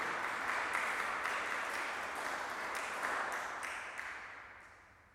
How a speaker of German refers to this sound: Noch ein Dankeschön auch an unseren Organist, vielleicht auch mit einem kräftigen Applaus. Dankeschön.